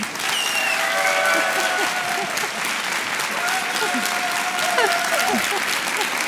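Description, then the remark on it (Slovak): Sustained audience applause as a guest is announced, with steady, dense clapping throughout, mixed with scattered cheers and whistles from the crowd. “A som zvedala, či ten potlesk bude teraz väčší alebo menší, hej?”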